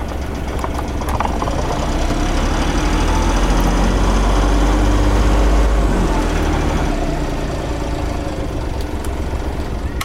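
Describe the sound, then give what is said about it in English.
A car engine rumbles loudly and steadily, with a few metallic clanks early on as the gear engages, then the engine swells as it revs up before settling back down. “Okay, this is the sound effects clanking the gear and then revving up.”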